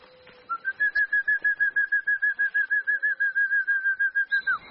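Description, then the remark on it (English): A bird gives a long, rapid run of identical whistled notes, about five per second, steady in pitch and loudness, clear, with no talking. “Neckels has studied the birds' habits and calls tirelessly.”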